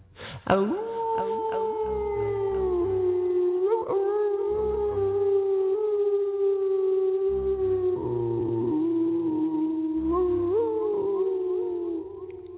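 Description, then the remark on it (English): A long, wolf-like howl at a full moon near midnight under a clear, cool sky, as two howl together pretending to be wolves; it holds steady and loud for over ten seconds, rising slightly in pitch at a few points, with a low rhythmic thumping underneath. “We howled at the moon just for a moment, pretending we were wolves.”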